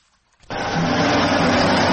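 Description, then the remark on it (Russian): After a brief near-silence, the loud roar of heavy military vehicle engines, Russian troops and equipment moving toward the Ukrainian border, cuts in abruptly and holds steady, a dense rumbling drone with no voices. “Они не понимают, зачем столько войск двигаются к украинской границе.”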